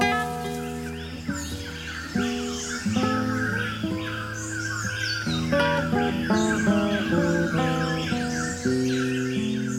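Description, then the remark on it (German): Birds call and squawk continuously at six in the morning, hopping in trees, bushes and flowers around a wooden hut with an open dining area and kitchen at the Los Cedros reserve station; several overlapping harsh cries and chirps, moderately loud, over a steady sustained tonal drone that shifts pitch now and then. “Sie hüpfen in den Bäumen, Büschen und Blumen um die Holzhütte mit offenem Essensraum und Küche herum.”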